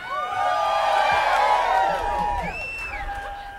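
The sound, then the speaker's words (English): A large crowd screams and cheers loudly, many overlapping high-pitched voices rising and falling together in a dense, sustained roar that tapers slightly near the end. “Now you can scream, you can clap your hands, or you can stomp your feet.”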